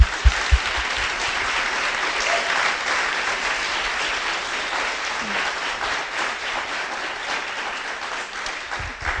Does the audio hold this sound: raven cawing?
no